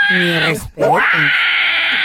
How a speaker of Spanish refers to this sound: No, en serio, güey, toda la gente ahí comentando. ¡No manches! Gritó como cochi. Wow. Esos son los gritos del asaltante, güey.